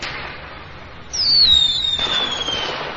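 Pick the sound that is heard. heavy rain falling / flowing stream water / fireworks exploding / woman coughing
fireworks exploding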